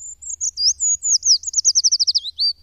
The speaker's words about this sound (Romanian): Cântecul, interpretat doar de mascul mare parte din an, este un șir repetat de note înalte și melodioase ce scad în intensitate spre final.